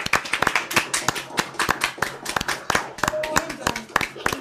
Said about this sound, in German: Also, ich würde mal sagen, wir machen mal all das Mikro nochmal an und dann können wir nochmal einen letzten Applaus